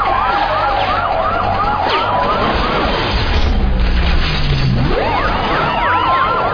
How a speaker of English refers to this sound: Just follow the sirens.